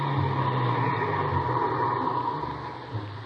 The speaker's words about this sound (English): Mr. Sullivan came out, got in the car, and we drove off. At 5:03, we pulled up at the meeting place